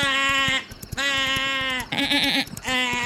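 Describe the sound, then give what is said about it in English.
A voice imitates a goat with three loud, strained bleating screams, each wavering and harmonic-rich, separated by short pauses, the middle one shakier and trembling. “… actually just sounded like a goat just now”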